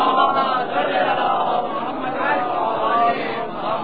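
A large crowd loudly recites salawat, blessings on Muhammad, together in a sustained unison recitation. Many voices blend into a steady, dense roar that fills the whole moment without pause.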